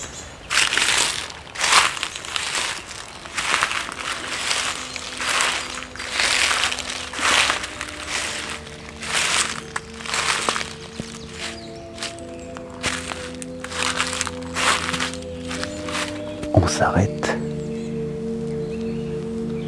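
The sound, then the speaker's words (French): Steady footsteps crunch through dry dead leaves at a walking pace along a small path, fairly loud, with a faint background hum and tones toward the end. “Et soudain, le soleil s'est caché, la piste s'est perdue, au bénéfice d'un petit sentier de feuilles mortes.”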